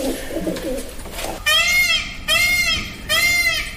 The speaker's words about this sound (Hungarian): Páva? Így van.